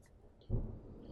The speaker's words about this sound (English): Now, as they were standing there, rain clouds came in, and the rain, you know, sometimes when it starts raining all at once, like pouring, yeah. Well, that's what happened.